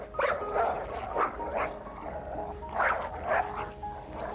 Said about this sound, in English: The dogs became agitated and angry and started growling and barking at each other.